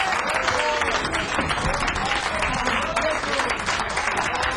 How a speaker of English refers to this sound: Thank all you beautiful people for allowing us to play for you. And thank you for bringing your claps on our recording day. Thank you for recording your claps very much.